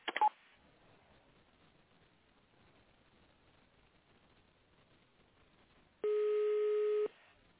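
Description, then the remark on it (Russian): Touch-tone dialing of an extension number on a phone call to the company Megarex: a brief beep at the start, several seconds of quiet line hiss, then one steady, fairly loud dual-pitched keypad tone held for about a second. “Наберите добавочный номер в тональном режиме или дождитесь ответа.”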